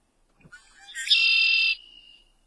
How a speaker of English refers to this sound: We're talking about birds, and here's that red-winged blackbird that you will hear in the spring.